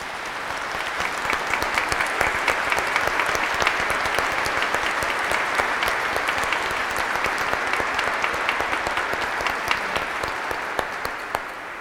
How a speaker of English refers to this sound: So the parents that are here, let's ask them to please stand and give them a round of applause. Moms and dads.